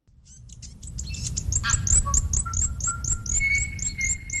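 Native birds singing together in a large predator-free enclosure on New Zealand's South Island, near Nelson, a rapid series of high, repeated chirps mixed with clear, sustained whistled notes, over a steady low rumbling background. No one speaks.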